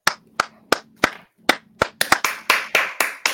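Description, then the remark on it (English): Sharp hand claps, loud and crisp, start at a steady moderate pace and then speed up into a quicker, denser burst of applause. No one speaks. “We clapped.”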